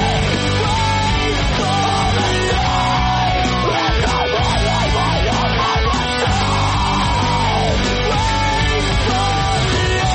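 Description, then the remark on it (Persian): Dense, loud rock music with distorted guitars and pounding drums, topped by harsh screamed vocals that rise and fall in strained bursts throughout. “عبارتی که از ترکیب کلمه اسکریم که به انگلیسی جیغ معنی میده با ایمو به وجود اومده، اسکریمو.”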